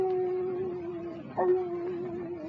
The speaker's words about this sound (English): Don't cry, Toby. You is a smart dog.